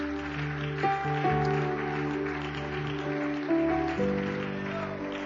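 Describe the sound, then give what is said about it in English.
An audience at Church of Pentecost in Cleveland, Ohio, claps steadily as a praise offering to the Lord, a dense, continuous wash of applause layered over sustained keyboard or organ chords that shift pitch a few times. “Can we give the Lord a clap offering of praise today?”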